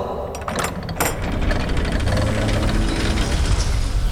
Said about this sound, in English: Gears creaked somewhere in the bowels of the fortress as the door swung slowly open.